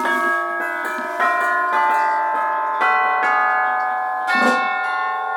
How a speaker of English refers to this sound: back here are the chimes from Dick Higgins, orchestral chimes